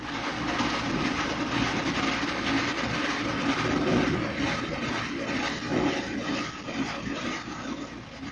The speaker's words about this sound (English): Sound detecting devices have been used by the Navy for a long time, but now a new piece of listening equipment mounted topside is being put aboard your boats. Listen to the sound of a destroyer as heard with this new JP-1 sonic listening gear.